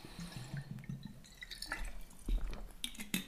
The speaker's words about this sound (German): Und ich nehme jetzt noch kurz einen Schluck Wasser.